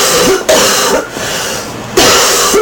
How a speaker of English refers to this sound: All right, enough of the coughing.